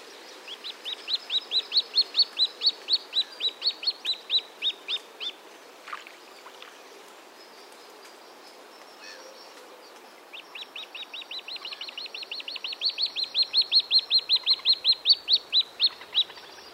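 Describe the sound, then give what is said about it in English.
A striped young bird chick on open water begs for food with high, thin piping calls repeating in rapid, steady series, pausing briefly midway before resuming with another long run of insistent peeps, clear over faint background water. “The nest can be very difficult to locate, so the most common evidence of successful breeding is seeing the humbug-striped chicks out on the open water or riding on a parent's back, begging for food with his piping call.”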